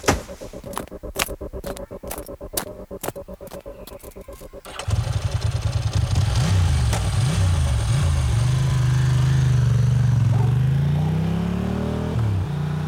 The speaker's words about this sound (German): Nachdem der Mann auf seinem Motorrad davongefahren war